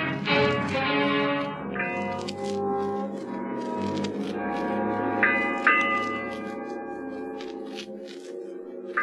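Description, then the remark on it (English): A ship's bell aboard a ship strikes eight bells in a few spaced strikes, each tone lingering and overlapping the next, over a low, steady rumbling drone. No voices. “Eight bells.”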